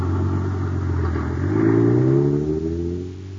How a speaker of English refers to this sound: Zooming down the highway, pulled along by an honest-to-goodness motor truck.